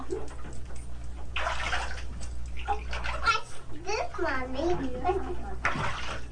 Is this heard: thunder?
no